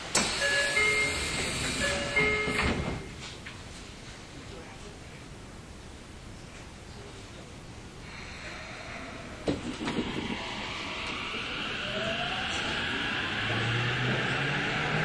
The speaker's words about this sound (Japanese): 2番、発車いたします。閉まるドアにご注意ください。